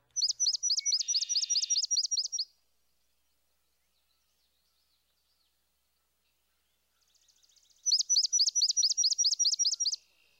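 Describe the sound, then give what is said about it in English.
A swamp sparrow sings two slow, loud trills of distinct, countable chips, each lasting about two seconds, separated by a long quiet gap. The song is clear, with no talking. “Oftentimes, you can actually count the chips.”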